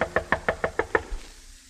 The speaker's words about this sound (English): Then I headed for the home of Rollo Bendata, Suzanne's servant, for my talk with him. I knocked hopefully on his door.